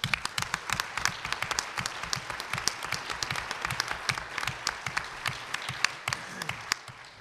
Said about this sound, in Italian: sono i membri della Consulta che da anni stanno lavorando per questa settimana, hanno lavorato, hanno usato veramente tanto discernimento, e quindi penso che sia giusto ringraziarli anche con un applauso. Ecco.